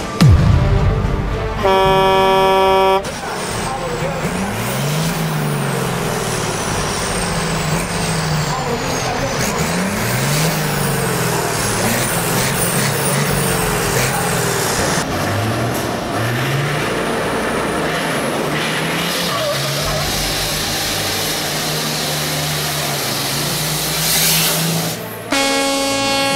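Heavy trucks rev and accelerate loudly in repeated rising engine surges at a truck drag race in Balneário Arroio do Silva, with a blaring air horn at the start and again near the end over a steady roar of noise.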